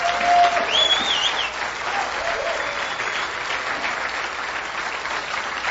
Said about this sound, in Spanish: Aplauda el nombre del Señor.